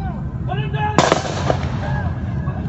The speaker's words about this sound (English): The gunshot was too loud.